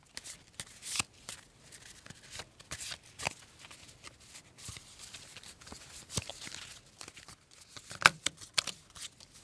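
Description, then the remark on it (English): Playing cards being shuffled for a card game, a run of crisp papery riffles and snaps in uneven bursts, with a sharper slap near the end and no voices. “We play card games because most cultures have cards, including China.”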